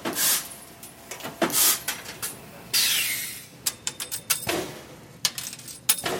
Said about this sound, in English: That sound from the floor of the GE aviation plant in Hooksett, where they make parts for commercial and military jet engines.